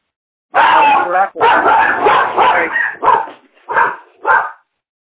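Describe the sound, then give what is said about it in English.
A dog whines and whimpers in long, drawn-out, loud vocal bursts, then gives a few shorter yelping barks before going quiet. “Someone wants a dog.”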